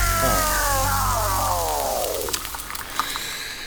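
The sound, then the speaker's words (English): A bucket of holy water set on a door falls: a long descending whistling tone slides down in pitch, then gives way to a noisy splash with a few sharp clatters, no voices. “Mind the bucket on the door.”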